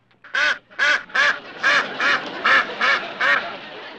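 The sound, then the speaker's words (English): A run of about eight loud, nasal duck-like quacks from a man who thinks he is a duck, in a steady, even rhythm, with no talking and only a faint background hum underneath. “I don't think there is anything in the book about a quacking goat.”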